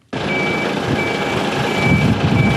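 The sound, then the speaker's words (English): A fire truck's reversing alarm beeps steadily in a repeating pattern over the loud, continuous rumble of an idling truck engine, on a suburban street lined with fire trucks in St Kilda East, Melbourne, Australia. “Fire trucks lined the street as police inspect a burnt-out vehicle parked in a Melbourne suburban driveway.”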